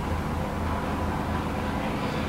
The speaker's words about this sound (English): So now also some people know of, okay, so now it just happens to be a very loud helicopter hovering over my house right now.